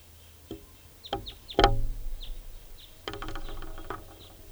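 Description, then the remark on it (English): A bird in a tree right above a net gives its alternate type 2 call: a series of short, high, down-slurred notes repeated at irregular intervals, fairly faint, over low rumble and a few sharp knocks, with no talking. “There's the alternate type 2 call.”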